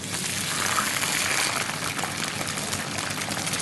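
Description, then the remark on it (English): Water pours steadily into a cooking pot holding eggplant on a base of onion and garlic, a continuous rushing splash that holds an even level for a few seconds with no one speaking. “Add water.”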